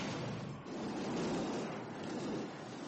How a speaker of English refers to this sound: What my poop looks like when it's getting flushed. Going down to the sewers.